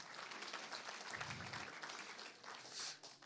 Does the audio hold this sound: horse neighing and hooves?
no